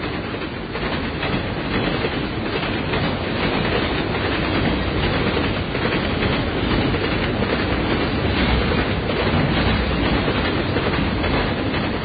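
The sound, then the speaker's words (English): A train rumbles steadily past on the rails, loud, with a continuous clattering roar of wheels and cars that holds level for the whole stretch, no voices. “As the trains pass, good name for a soap opera, eh?”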